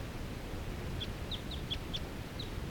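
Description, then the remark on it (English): A single lone wild bird in a fir tree gives a quick series of about seven short, high chirps, spaced evenly over a second and a half, heard above a steady low rumble of background noise. “This is that same bird that I was recording a minute ago, and that was lone and in the fir. Calling rapidly now.”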